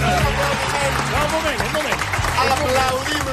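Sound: applause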